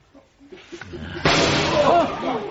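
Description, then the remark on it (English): A single loud gunshot bursts out abruptly partway through, sharp, leaving a sustained noisy wash of echo and commotion. It is fired during a wedding ceremony and hits a woman at the altar. Faint voices can be heard murmuring beforehand. “A single gunshot, and Lorna fell across my knees.”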